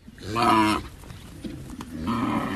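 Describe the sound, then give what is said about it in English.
A large cow weighing nearly 1 ton, in Thailand's northern farming country, lets out two deep, loud grunting bellows, a short pause with lower rumbling between them, the second call drawn out and slightly quieter. “That is a big grunting cow, weighing nearly 1 ton.”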